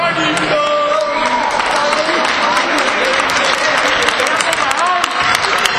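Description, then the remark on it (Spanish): A crowd breaks into sustained, loud farewell applause as guests, including the commercial director of Central Quesera Montesinos, withdraw. Dense clapping runs steadily from start to finish, with scattered voices and a few whoops rising through it. “El aplauso de despedida para ellos.”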